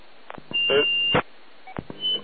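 Electronic beeping as it is being switched off: a steady high-pitched tone holds for about half a second, then after a pause a shorter beep sounds, with several sharp clicks and knocks around them.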